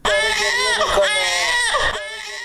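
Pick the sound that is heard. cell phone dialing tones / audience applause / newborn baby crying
newborn baby crying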